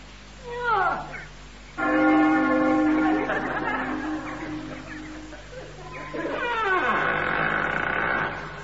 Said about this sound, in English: Ring the bell. Oh, all right. So that'll be this great rusty iron ring, I suppose.